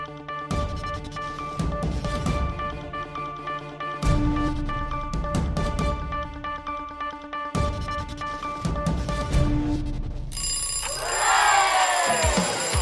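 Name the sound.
alarm clock ringing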